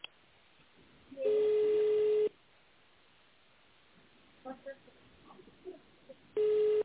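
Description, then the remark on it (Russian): A telephone line tone on a company's phone line, where callers are asked to dial an employee's extension or the secretary: a steady, mid-pitched electronic beep lasting about a second, then faint scattered murmurs, and the same beep starting again at the very end. “Наберите, пожалуйста, внутреннего сотрудника или секретаря.”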